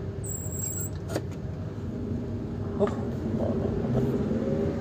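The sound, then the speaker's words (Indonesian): Steady low rumble of road traffic with a car engine droning throughout, a few brief clicks and rattles on top, no voices. “Aduh, ini mobil.”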